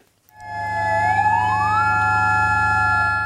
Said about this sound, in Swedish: 9 minuter före 1 på eftermiddagen, det klockslag som jordbävningen inträffade, ljöd sirener i Mandalay för att markera starten på en tyst minut.